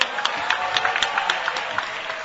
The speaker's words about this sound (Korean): 뜨거운 박수로 모시겠습니다.